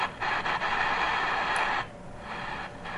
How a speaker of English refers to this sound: I guess if you want some good white noise to help put you to sleep or to do one of those.